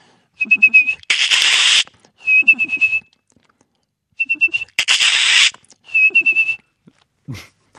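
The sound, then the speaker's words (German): A person whistles, with the mouth alone and no aids, an imitation of a black redstart's (Hausrotschwanz) song, twice: a high, thin trill, then a harsh scratchy crackle, then more short whistled notes. No talking. “Den Hausrotschwanz? Auch nicht besonders melodisch. Eine knirschend, quietschende Strophe.”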